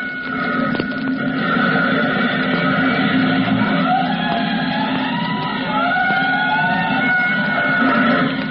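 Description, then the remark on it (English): A fire engine siren, responding to a 5-alarm fire, wails in long rising and falling sweeps over a loud, steady roar of engine and traffic noise, with several overlapping tones gliding up and down throughout. “Attention, all districts. A 5-alarm fire. 5 bells. Move in immediately.”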